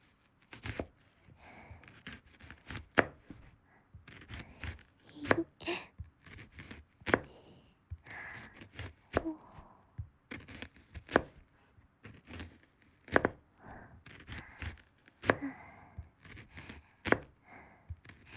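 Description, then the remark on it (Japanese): Onions being chopped on a board, a steady run of sharp knife taps in an uneven rhythm with some crisp slicing and faint rustling between strikes, no voices. “野菜で全然違う音するんだね。”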